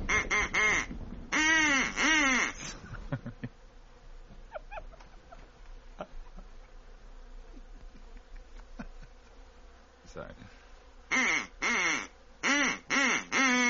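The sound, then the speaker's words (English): Swans call as they land, loudly in bursts of harsh, honking notes at the start and again near the end, with a quieter stretch of faint rustling and scattered clicks in between. “Yes, they're silver swans, and they carry in their bills the body of a third, a swan of gold.”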